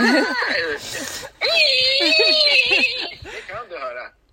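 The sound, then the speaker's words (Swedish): A person imitates a pig's scream with shrill, strained squeals, loud, in a few bursts over several seconds with brief breaks between them. “Det är bättre att grisarna skriker istället.”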